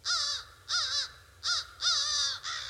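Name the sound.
crow cawing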